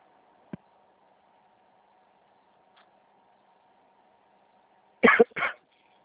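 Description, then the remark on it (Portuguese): A pair of quick, rough throat-clearing coughs into the mic by a bank call-centre agent during a phone call, following a brief click earlier and a faint hum running underneath. No one speaks. “É corona não, é só um pigarro que eu tenho.”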